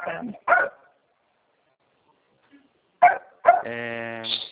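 A dog barks in short, sharp bursts: two quick barks, a pause, then two more followed by a drawn-out whining yelp. The barking is loud, with no talking over it.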